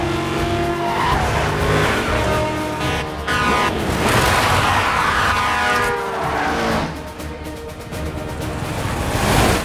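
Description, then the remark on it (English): Speeding cars roar past on a busy four-lane highway while tyres screech and skid in long wavering squeals as a lorry jackknifes under braking, a loud, unbroken rush of engine noise throughout with no voices. “A lorry jackknifes as it breaks, and Darius hugs the concrete wall to avoid it.”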